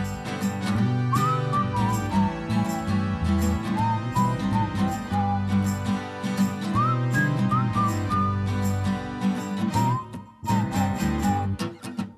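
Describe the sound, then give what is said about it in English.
A bright whistled melody of gliding, chirpy phrases, imitating a bird of paradise's song, rises and falls over steady, loud backing music, with a brief pause near the end. “Bird of paradise is singing out his song.”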